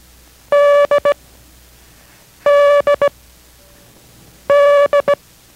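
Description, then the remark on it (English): The Morse code letter D (as in Dog) tapped out three times in steady beeping tones in a Morse code lesson from K6RAU in Merced, each a long dash followed by two quick dots, with short pauses between the groups and no talking. “This is D as in Dog.”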